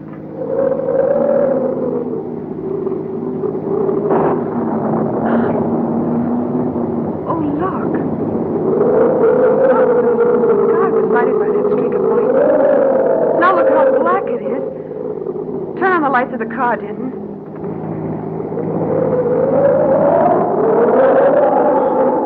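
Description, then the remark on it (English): A car drives fast on hill roads in strong wind before a storm, its engine droning loudly and continuously, the pitch rising and falling as it speeds up and slows, with people talking over the noise. “You'll never be able to keep the car on the road with a wind like this.”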